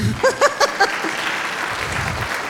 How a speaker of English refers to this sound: And then the last thing, I know you can clap, it's cool.